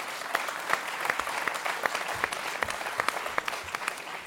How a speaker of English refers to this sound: And I would like to invite to the stage, and everyone give a big round of applause because they'd be quite nervous probably,